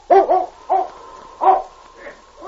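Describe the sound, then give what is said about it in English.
A dog, Champ, barks several times at a narrow crack in the side of a mountain cliff. The sharp, loud woofs come in a quick, uneven series with short pauses between bursts, and there is a fainter bark near the end. “Did you find him, boy?”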